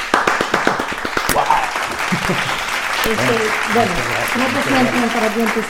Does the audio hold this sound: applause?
yes